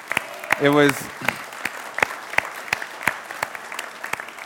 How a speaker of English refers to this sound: Thank you for everyone who served. Can we give a round of applause for those who served?